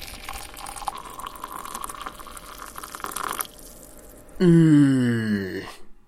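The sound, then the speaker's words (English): Bollinger champagne pours into a glass with a steady fizzing, bubbling hiss that rises slightly in pitch as it fills, followed by a short, loud, low hum from a voice that slides downward. “Okay, I have a glass of Bollinger.”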